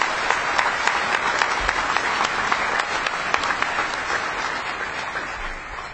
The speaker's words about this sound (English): So if you can give him a round of applause, please.